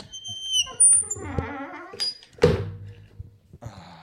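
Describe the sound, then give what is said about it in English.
A beer can of Stapletons CCs cracks open with a sharp pop and a brief fizzing hiss, after a few squeaky, clunky handling noises and quiet rustling. “Oh, yeah, it was a pretty solid crack.”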